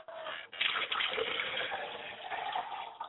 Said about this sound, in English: Now, we pour libations to the east and we say Ashe. We pour libations to the west and we say Ashe. We pour libations to the north and we say Ashe. We pour libations to the south and we say Ashe.